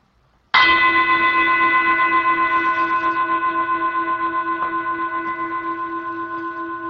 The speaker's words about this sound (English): And I'm going to ring the bell. And as you hear the sound of the bell, I'm going to invite you just to let it draw you inward.